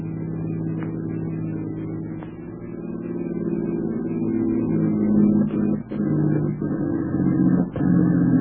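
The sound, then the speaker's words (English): A car engine hums steadily, then sputters and coughs as the car runs out of gasoline at the crest of a high hill, its drone briefly cutting out a few times as if the motor is starving for fuel. “As they reached the crest of a high hill, their gasoline gave out, and a Jap staff car opened fire on them.”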